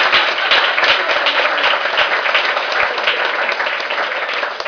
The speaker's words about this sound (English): Okay, now wait a minute. We forgot to have the applause.